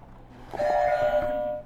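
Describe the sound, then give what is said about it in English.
A game buzzer is struck, letting out a single steady electronic tone, bright and chime-like, that rings for about a second before cutting off, with faint thumps at the press. “Which buzzer are you gonna hit next?”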